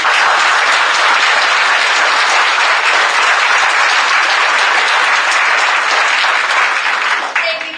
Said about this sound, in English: If we could keep the applause to a minimum, we can get through more people faster.